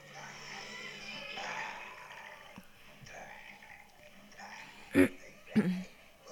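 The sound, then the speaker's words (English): Low, throaty growling and wet gurgling rumble on steadily, seemingly made by human voices, with two louder, sharper guttural bursts near the end. “Quit growling and fucking gurgling.”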